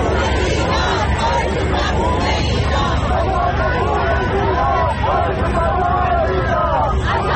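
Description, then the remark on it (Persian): A large protest crowd of thousands of Iranians in the United States, joined by non-Iranians, shouts and chants the name Mahsa Amini together in support of Iran's nationwide protests, many voices rising in loud, repeated calls over a dense, continuous roar of hubbub. “آمریکا، جایی که جمعیت بزرگی از هزاران ایرانی از ایالت‌های مختلف آمریکا و همینطور از کانادا به اینجا آمدند، دور هم جمع شدند، حتی غیر ایرانی‌ها به اونها پیوستند و همه با هم نام مهسا امینی رو در حمایت از اعتراضات سراسری ایران فریاد میزنن و تکرار میکنن.”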